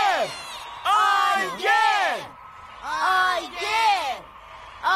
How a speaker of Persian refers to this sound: اونجا رو ببین آیگر، همه دارن تشویقت میکنن.